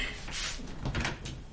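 A kitchen refrigerator door is pulled open, a soft muffled thud followed by a faint rustling hiss, quiet, with no voices.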